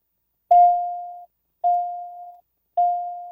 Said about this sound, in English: While there, he distinctly heard his children, who had left at home, ringing a bell.